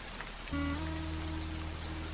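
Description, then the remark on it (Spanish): Heavy rain pours down in very strong drops in a steady, dense hiss with no talking, and a sustained low humming tone comes in a moment after the start and holds beneath it. “Caían gotas de agua muy fuertes y todas las hormigas de las familias despertamos asustadas sin saber qué debíamos hacer.”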